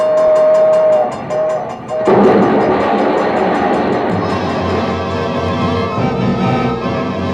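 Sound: train passing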